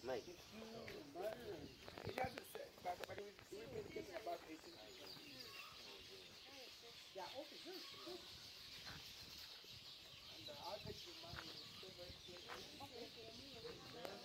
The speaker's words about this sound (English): Oh, yeah. Lots of birds. They have some noisy birds there.